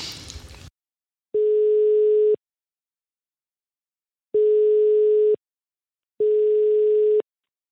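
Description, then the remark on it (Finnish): A telephone line ringing tone as the hosts take an incoming call: three long, steady mid-pitched electronic tones, each about a second long, separated by silent gaps, following a brief burst of noise. “Otetaan puhelu.”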